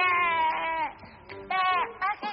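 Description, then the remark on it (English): A person imitates a sheep's bleat with a few wavering, nasal 'baa' sounds in quick succession, fairly loud. “Y'all can continue to be sheep. I'm not gonna be nobody's sheep.”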